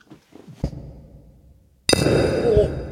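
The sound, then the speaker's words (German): During a beer-drinking toast, a pouring microphone is deliberately knocked against a drinking glass twice: a soft tap, then a much louder clink that rings with high, glassy tones over a dense, rushing hiss. “Ja, wir haben, also ich habe auch das Einschenkmikrofon gerade ein bisschen gegen das Glas geschlagen.”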